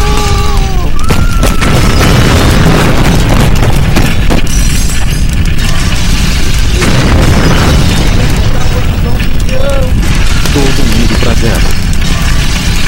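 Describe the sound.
A loud, sustained explosion effect roars for several seconds with heavy low rumbling and crackling bursts, while voices shout faintly beneath the blast.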